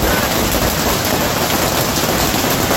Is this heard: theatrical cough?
no